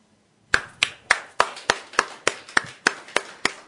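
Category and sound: crowd, audience applause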